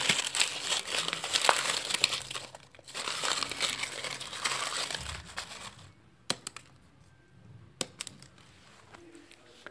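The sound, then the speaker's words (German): Soft, crinkly rustling outside a tent, a steady papery scratching for several seconds that then thins out into a few sparse, sharp crackles and clicks. No one speaks. “Plötzlich hörte draußen vor dem Zelt ein leises Rascheln.”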